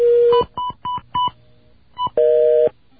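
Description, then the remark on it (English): Telephone dialing tones: a steady low tone, then a quick run of short dual-pitch beeps in an uneven rhythm, a pause, and another beep before a longer buzzing tone. Loud and clear, with no talking. “Please excuse all the beeps and buzzes you're going to hear.”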